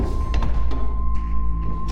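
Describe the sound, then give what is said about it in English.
Several heavy metallic clunks and thuds, irregularly spaced, as the heavy locking mechanisms of a steel door disengage, over a steady electrical hum and a low, continuous rumble. “The moment your watch hits 5:55, you hear the heavy locking mechanisms disengage.”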